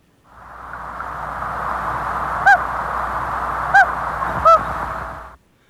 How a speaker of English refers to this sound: I meshed two recordings together. So it definitely sounds like there are, these are distinct to different birds and different lakes at different times.